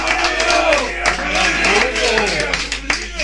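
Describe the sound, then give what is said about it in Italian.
An audience applauds with steady, dense clapping for about three seconds, while voices and cheers rise over the claps throughout, as applause for Martino, a man who wrote in. “Un applauso a Martino, per piacere.”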